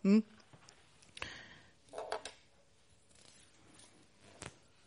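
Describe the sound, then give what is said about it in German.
A pencil is being sharpened in a small pink sharpener, heard as a few short scraping and grinding bursts spread out with pauses between them, after a brief vocal sound at the start. “Ein Spitzer. Ich habe da ein wunderschönes pinkes Modell. Und da kann man dann den Stift spitzen.”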